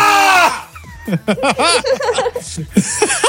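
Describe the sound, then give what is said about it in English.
A voice lets out a loud, sustained high-pitched cry, then breaks into a rapid run of strained, wavering yelps. It is intense, performed by a person imitating a character screaming at his loudest. “… says Krez screaming at his loudest.”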